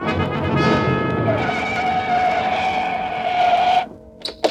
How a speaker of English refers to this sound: Get back on the sidewalk. Look out, here comes a car.